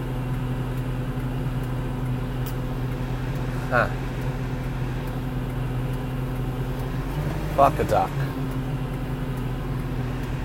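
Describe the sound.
A tractor engine idles steadily, a constant low droning hum that never lets up, while a man mutters a couple of short phrases over it; the tractor is being driven back to the shop and is stuck in traffic caused by a train crossing.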